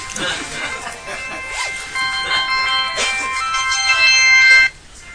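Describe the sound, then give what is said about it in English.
A mobile phone ringtone for an incoming call plays a bright electronic melody, ringing steadily for several seconds before cutting off abruptly, with people talking over it. “Well, now it's my phone. Oh my God, how embarrassing.”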